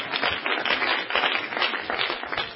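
An audience claps steadily as praise to God during a sermon, a dense wash of overlapping hand claps with no clear rhythm, sustained and fairly loud for the whole stretch, with no talking over it.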